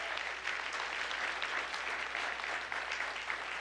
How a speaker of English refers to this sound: And give the Lord a hand clap.